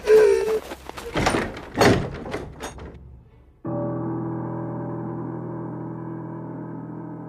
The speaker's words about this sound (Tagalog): Kasabay ng pagsarado ng pinto ang pagkamatay ng kandila.